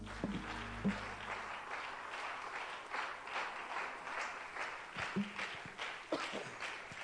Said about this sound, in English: Anoint your servant, Lord, to speak your word in Jesus' name. Can you give him a hand clap of praise?